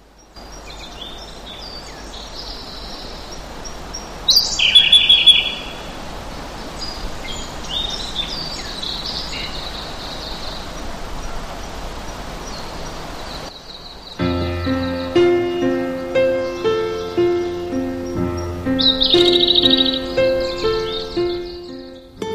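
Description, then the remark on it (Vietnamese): Birds in open fields chirp in short bright bursts over a steady outdoor hiss, then a louder, tuneful passage of repeating notes takes over with a bouncy rhythm. “Những cánh đồng ấy không mang cái từ green trong tên, nhưng lại có màu xanh cho đôi mắt ngắm và tiếng chim hót cho đôi tai nghe.”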